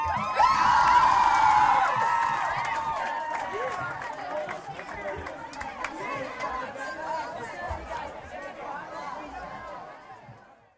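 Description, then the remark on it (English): A crowd at a live band show cheers and applauds a band after its set, with loud whoops and shouts at the start easing into a steady wash of clapping and chatter that slowly fades. “Hey, give these guys a round of applause.”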